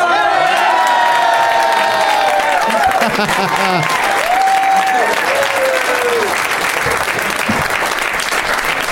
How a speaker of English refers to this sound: Did you do that to get like your own round of applause?